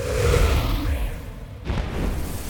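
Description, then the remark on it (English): A firework explosion over Pflugerville Peak: a deep, rumbling boom that rolls on, followed by a second sharp burst partway through, with no voices. “Another firework explosion.”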